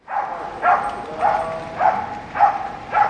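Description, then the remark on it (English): A calm dog at a service with dogs in Christchurch Cathedral, Dublin, barks five times in a steady, evenly spaced rhythm, each bark short and moderately loud, with no talking over it. “And see, all the dogs are used to visiting people in homes and hospitals, so they have to be of a very calm nature.”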